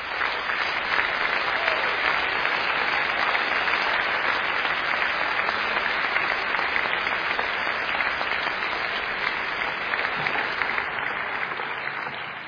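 A large audience gives a big round of applause for BJU's award-winning delegation, clapping steadily and loudly in a dense, continuous wash that holds at full strength for about twelve seconds with no voices standing out.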